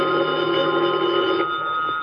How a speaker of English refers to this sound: Then, at about 11:15 that night, the phone in the lobby started ringing.